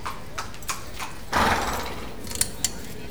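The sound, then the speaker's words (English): Horses' hooves clop unevenly on the ground as they walk in a paddock, a scattering of soft hoofbeats with a brief scuffing rustle partway through and a couple of sharper clops near the end. “Put your riders up, please.”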